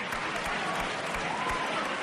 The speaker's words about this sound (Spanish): Un aplauso para el alcalde.